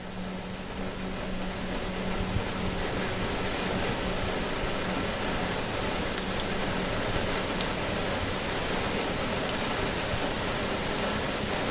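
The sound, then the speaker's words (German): Steady rain falls outside a cabin, seeming to grow in intensity, a dense, even hiss of drops with occasional brighter patters on a surface, with no voices. “Der Regen draußen scheint an Intensität zuzunehmen.”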